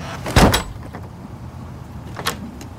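A door slams shut with one heavy thud, then the room goes quiet except for a fainter knock or latch click about two seconds later.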